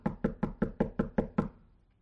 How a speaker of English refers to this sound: The uncleaner at your door. Knock, knock, knock.